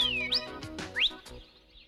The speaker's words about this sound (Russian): Да это я свистел!